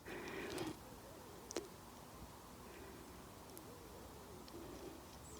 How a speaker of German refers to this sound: Und dann nimmst du die Schallwellen, ob es jetzt von meiner Stimme ist, die Schallwellen, oder vielleicht jetzt auch von Vögeln, die ganz ruhig sind.